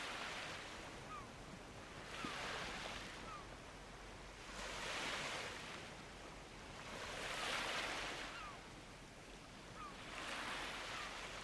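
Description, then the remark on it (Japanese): Ocean waves wash onto the shore in a steady rhythm, each broad hissing surge swelling and fading every couple of seconds over a constant low rumble of surf, with no voices. “ご主人様、 空と海にお心を奪われてしまいましたか。”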